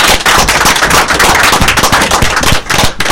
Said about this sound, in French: Et on applaudit. Et on applaudit, s'il vous plaît.